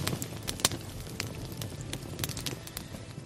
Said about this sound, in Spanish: relajarte observando el crepitar de un fuego, cómo refulgen las brasas y va cambiando de color.